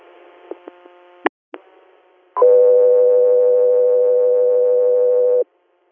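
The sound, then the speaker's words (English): A few sharp radio clicks and a brief crackle give way to a loud, steady dispatch alert tone for a hospital response, a single buzzy sustained pitch lasting about three seconds before cutting off abruptly. “Dispatcher here, stand by for tones.”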